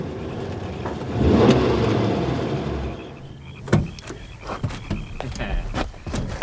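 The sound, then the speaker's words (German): A green sedan roars past at breakneck speed, turning off a country road onto a track leading down to a lake; its engine and tire rush swell loudly then fade, followed by a string of sharp clicks, knocks and faint high squeaks. “3.13 Uhr lenkt sein Sohn die grüne Limousine in halsbrecherischem Tempo von der Landstraße auf dem Fahrweg, der zum See hinunterführt, wo es nur ein paar Wochenendhäuschen gibt und das Clubhaus.”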